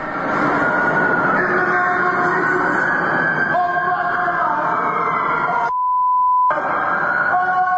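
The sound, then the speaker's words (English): A single steady, high censor beep lasting under a second, covering a dropped F-bomb in a recording, abruptly replaces a loud, continuous rumble of rail noise with whining tones, which resumes right after the bleep ends. “We took the we beeped it because there was an F-bomb dropped in there.”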